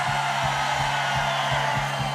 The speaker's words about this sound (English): Seid ihr ready? 1, 2, 3, scream! Und noch einmal 1, 2, 3, scream!